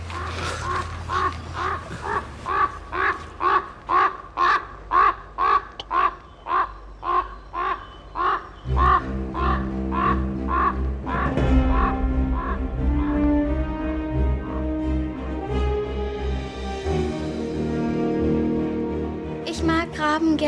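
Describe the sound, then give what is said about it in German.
A raven sings, giving a long run of steady, evenly spaced harsh calls, about fifteen in a row, followed by a denser stretch of sustained, warbling tones and gurgling notes, fairly loud. “So singen Raben.”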